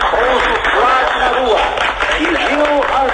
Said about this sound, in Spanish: E o Brasil aplauda conosco. O mundo aplauda.